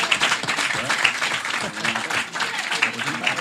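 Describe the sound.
Steady applause from an audience at the Petit Kings in Saint-Gilles, a dense wash of many hands clapping, with voices faintly audible beneath it.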